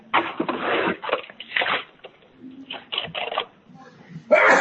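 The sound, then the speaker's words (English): A single loud, sharp sneeze bursts out at the very end, following a stretch of people talking over a thin, phone-like line. “Bless you.”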